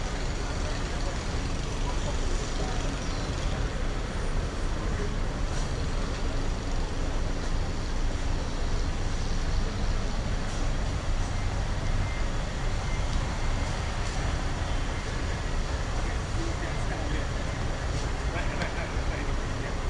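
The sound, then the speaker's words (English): Steady traffic ambience at the bus terminal in Butterworth, where buses from the south and north stop: a continuous low rumble of idling engines and passing vehicles, with indistinct voices mixed into the busy, unbroken background. “Right now, I'm here in Butterworth now, and down here is the bus terminal, and all the buses that is coming from the south or even from the north would stop here”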